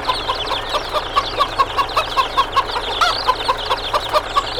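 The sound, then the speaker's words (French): A hen with her chicks, standing in front of a tractor, clucks in a steady, rapid series of short, mid-pitched notes, about four per second, with a busy background of chirping birds and no voices. “Eh ben, poulette, qu'est-ce que tu fais là? Allez, reste pas devant le tracteur, dans une pipe.”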